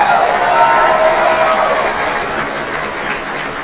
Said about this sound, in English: We got to give you a big round of applause.